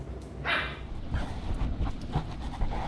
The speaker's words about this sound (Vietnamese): Đó là hai chú chó săn thỏ đang chơi đùa bên trong một phòng thí nghiệm nằm ở phía bắc trung tâm thủ đô Bắc Kinh.